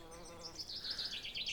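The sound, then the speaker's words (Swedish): Birds singing with a steady stream of high, warbling twitters that wind up and down in pitch, continuous, with no voices present. “Jag kan känna värmen från solen höra fåglarna sjunga och känna doften av blommor.”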